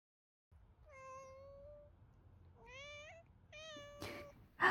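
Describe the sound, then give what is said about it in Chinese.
A pet cat named Qiuqiu meows three times, drawn-out, whiny calls begging for canned treats, with short pauses between them, followed by a brief rustle and a soft thump at the end. “好好好，真是小夹子猫猫。怎么这么会撒娇啊？”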